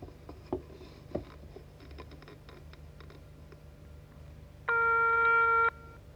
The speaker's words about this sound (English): Yeah, that was a landline telephone. That means an old-time cable telephone with the dialing sound and the alarm signal.